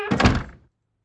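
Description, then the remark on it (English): A bedroom door swings shut with a single solid thunk, fairly loud, its dull impact decaying quickly into silence. “he gave Jack a very suspicious look as he closed the door behind him”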